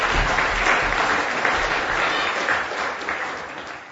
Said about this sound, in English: Brilliant. Little round of applause for my helpers. Go on back.